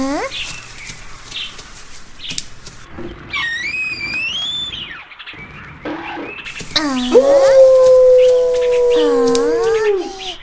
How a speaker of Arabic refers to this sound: إنه صوت ذئب، يا إلهي، مرة أخرى الذئب.